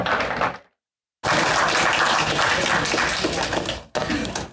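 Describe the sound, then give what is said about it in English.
A church audience applauds a guest speaker at the end of a service in a loud, dense wash of clapping that stops briefly, then resumes strongly for several seconds before a short break and a final burst. “And how about one more round of applause for our guest today,”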